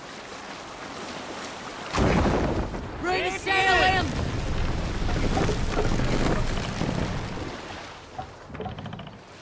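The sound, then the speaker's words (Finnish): A Viking ship travelling along a river in England in a video game, with steady rushing wind and splashing waves. A brief voice rises over the noise early on, and the sound eases off near the end. “Perillä Englannissa pelin alkuvaiheessa nopein tapa liikkua on jokia pitkin viikinkilaivalla.”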